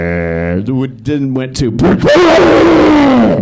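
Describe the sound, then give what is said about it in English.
A voice imitates a guitar distortion pedal randomly glitching: a steady clean hum, a few choppy broken bursts, then a loud, harsh, gravelly roar that holds for over a second. “And Mitch also had a habit of never fixing his equipment, so his distortion pedal would randomly decide to distort.”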